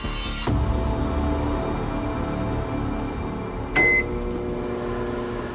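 A microwave oven hums steadily, with a sharp click near the start and another click later followed by a short high beep, then the low drone continues.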